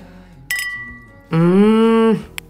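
A single bright clink of wine glasses in a toast over dinner that rings on for a moment, followed by a loud, drawn-out buzzy tone and a tiny tap at the end.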